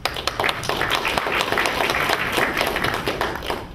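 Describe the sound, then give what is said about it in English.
A crowd at a Debian gathering applauds the local Debian supporters steadily, many hands clapping in a dense, even patter that holds at a constant level throughout, with no one speaking over it. “So I'd like to give them a bit of applause real quick.”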